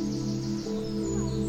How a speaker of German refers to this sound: und das Vogelzwitschern.